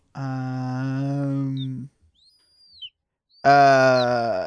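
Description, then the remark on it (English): A person imitates a baby seagull with two long, strained, harmonic-rich cries separated by a brief pause with faint high squeaks, loud. “My impression of a baby seagull for you there.”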